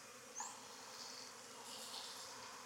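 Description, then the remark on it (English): A dense, steady drone of many honeybees buzzing on a hive frame as they are collected into a container up to a fill line, continuous and fairly soft, with a brief sharper buzz near the start and no voices. “Bees really don't like this, so you might get stung doing it.”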